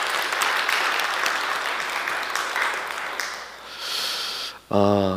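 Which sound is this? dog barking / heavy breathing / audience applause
audience applause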